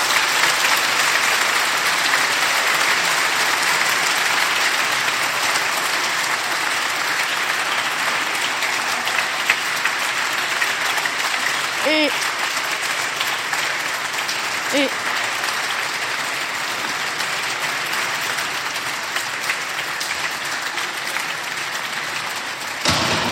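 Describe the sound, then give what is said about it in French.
Sustained audience applause for the children of the biblical education classes and their instructors, a dense steady wash of many hands clapping at even loudness for over twenty seconds, with a couple of brief voiced calls or cheers poking through midway. “Je crois que nous pouvons encore applaudir tous les enfants de l'éducation biblique.”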